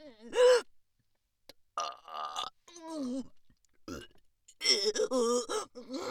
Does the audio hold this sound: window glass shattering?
no